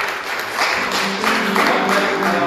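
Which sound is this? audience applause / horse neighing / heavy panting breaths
audience applause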